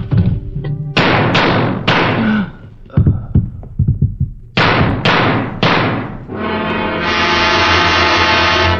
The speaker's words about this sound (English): I hear a gunfire.